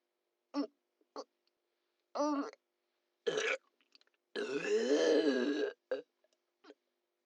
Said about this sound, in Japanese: ゲップ浴びておちんぽ震えて喜んでる。